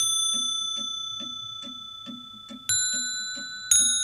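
Clock bells chime with a sustained metallic ring over a steady ticking, and two fresh bright strikes ring out near the end as the earlier tones slowly fade.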